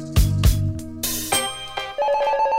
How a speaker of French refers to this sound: la ligne du téléphone bleu se met à sonner. C'est une urgence.